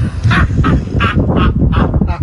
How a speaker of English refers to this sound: He has discovered that this car can play fart audio. Oh my gosh. Move it to different points in the vehicle to make it sound like that